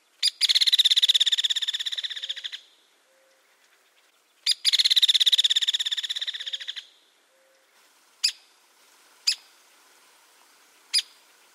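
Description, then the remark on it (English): Two long, fast rattling calls of a hairy woodpecker, each a couple of seconds and fading slightly, followed by three sharp single-note peek calls spaced about a second apart, clear against a quiet background. “The similar-looking hairy woodpecker, which is larger overall and also has a longer bill, makes a rattle call as well as a single-note peak call, which is sharper and slightly lower pitched compared to the pick of the downy.”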